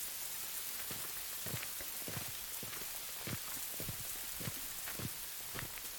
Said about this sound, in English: No, no towels. It's raining.